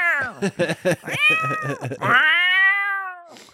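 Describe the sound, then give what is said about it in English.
A voice does a drawn-out, high-pitched meow imitation, loud, rising then slowly falling, after a quick burst of choppy vocal sounds. “And she was meowing. She was like, meow!”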